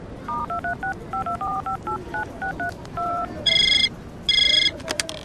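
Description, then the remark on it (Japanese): A quick run of about a dozen short two-tone telephone keypad beeps as someone dials a call to their company office, followed by two bursts of a bright, buzzy phone ring, all clear with no voices. “あ、 そうだ、会社に電話しなきゃ。”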